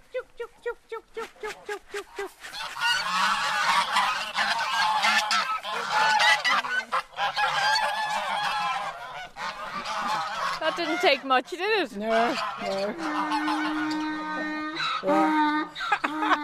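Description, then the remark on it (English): A flock of farm geese in County Limerick, kept for Christmas, honks loudly, a dense, overlapping clamour of harsh calls that swells after a couple of seconds and keeps going, with a few brief spoken words. “She not only cooks a goose for Christmas, but she wears a flock of them in preparation for the celebrations.”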